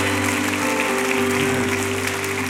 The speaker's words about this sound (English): I don't know about you, but I think we need to give Jesus a hand clap and a shout of praise for the divine ability that was outpoured upon us.